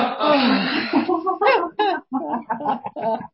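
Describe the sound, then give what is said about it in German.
A group doing laughter yoga, having breathed in through the nose, exhales loudly and breathily together with arms raised and upper body hanging, followed by a string of short, voiced bursts like chuckles and gasping breaths in an uneven rhythm, fairly loud. “Durch die Nase einatmen. Finger weit auseinander, Arme nach oben und ausatmen, Oberkörper hängen lassen.”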